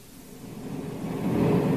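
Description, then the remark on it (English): A deep, rumbling engine roar swells steadily louder over a couple of seconds as a spaceship lands, with no voices present. “Corey's landing right where I figured he would. Stay behind the trees until he's out of the ship.”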